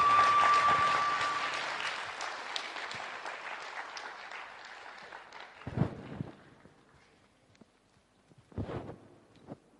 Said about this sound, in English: So thank you, and one more round of applause for all our performers.